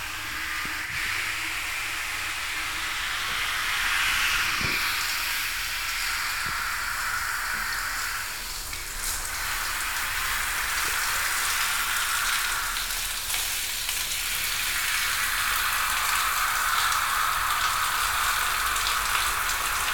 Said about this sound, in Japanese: シャワーかけるから、また目つぶってなさい。